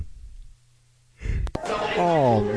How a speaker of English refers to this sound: So I think now, since you keep yawning, yes, and seem so I'm tired, very tired, yes.